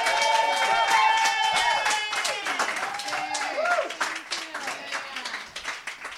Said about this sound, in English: Everybody cheer like that just happened. Woo!